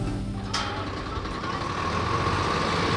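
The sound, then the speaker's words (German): A 12-metre-long mobile library truck rumbles with a steady, heavy diesel engine drone and a brief hiss early on, as it rolls slowly onto the schoolyard in Ziltendorf, with no one talking. “Der Bücherbus, ein 12 Meter langer LKW, fährt auf den Schulhof von Ziltendorf.”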